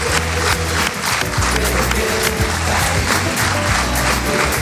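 A crowd applauds steadily for several seconds, a dense, loud wash of clapping over a bed of upbeat background music, with no one speaking.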